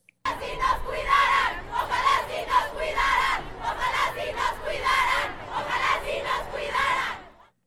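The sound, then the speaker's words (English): A large crowd of women protesters in Mexico City chants in unison at police guarding monuments and buildings, loud and sustained, with rhythmic bursts of shouted phrases repeating every second or so over a continuous roar of voices. “And you really heard that in some of the chants yesterday.”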